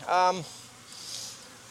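A honey bee buzzes loudly for a moment around a hive, its drone dropping in pitch as it flies off, leaving a faint, steady hum of more bees in the background.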